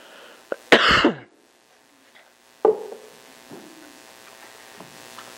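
coughing fit

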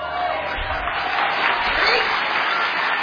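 audience applauding

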